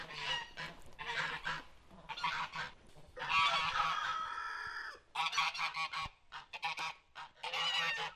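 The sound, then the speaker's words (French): A flock of geese honks loudly, harsh overlapping calls coming in repeated bursts with short pauses, among hens, roosters, ducks and guinea fowl kept in an orchard of fruit trees. “Donc là, dans le verger, j'y ai laissé mes poules. Poules, coqs, canards et puis pintades et oies.”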